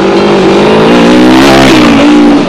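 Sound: busy city street traffic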